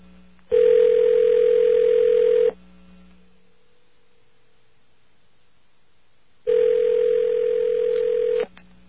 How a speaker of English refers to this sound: See if we can actually get through here to the superstar disc jockeys over at that radio station. Phone is ringing.